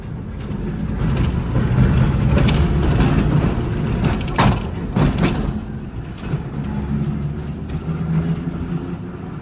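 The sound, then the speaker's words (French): A tram heading out to the countryside rolls along rails with a steady low rumble, broken by a few sharp metallic clacks and squeaks from the wheels. It's continuous, with no voices. “Ensuite, ils quittèrent ensemble l'appartement, ce qui leur était plus arrivé depuis des mois, et ils allèrent prendre le tramway pour filer à la campagne.”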